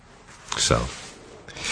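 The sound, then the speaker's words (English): A flexible-nib fountain pen scratches across paper in two short bursts of writing strokes as a greeting note is written: a soft, dry rasp with a brief pause between them and no talking. “I'm going to write a thank you note or, just a greeting note to you using this pen so you can see how beautiful it is.”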